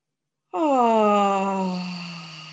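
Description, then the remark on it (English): A single long, voiced yawn-like sigh, breathing in and then yawning with sound on the out-breath, begins abruptly, starting higher and sliding down into a sustained low moan that slowly fades, clear with no other sounds. “So breathing in and yawning for up to 5 seconds.”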